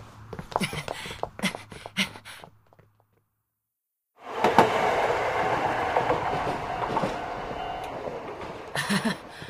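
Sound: train running on rails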